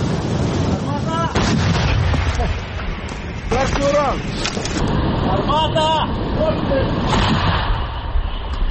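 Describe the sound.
An M777 howitzer, called "three axes" by Ukrainian soldiers, is fired by a Ukrainian military crew: sharp booming blasts against steady wind-like rumble, while voices shout brief commands in between.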